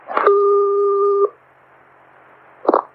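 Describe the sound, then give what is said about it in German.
A telephone line sound before a recorded phone call: a click, then one steady electronic tone lasting about a second, followed by faint line hiss and another short click, like a handset being picked up. “Dass die Begegnung wohl tatsächlich ganz schön war und es sogar kleine Präsente gab, belegt das Telefonat, das die beiden danach geführt haben.”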